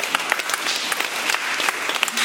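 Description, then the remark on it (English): Many people tap three fingers against their palms to imitate a rainstorm, a dense, steady patter of crisp little clicks like heavy rain, with no voices. “And now take three. Here comes a storm. Take three fingers.”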